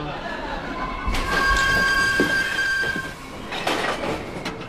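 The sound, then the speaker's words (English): A train rumbles steadily along the rails, with a sustained high metallic squeal of wheels and bursts of clatter, heard from inside the carriage over a broad background roar. “10 more minutes on the train and then a 15-minute walk.”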